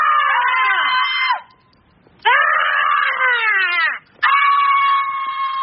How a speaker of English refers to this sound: The little girl thinks because she can scream, she can get away with everything? I can scream too.